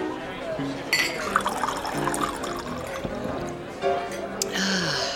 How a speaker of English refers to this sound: Well, you must like the way I pour your drink.